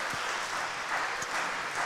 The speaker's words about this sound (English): Can we give him a big round of applause, please?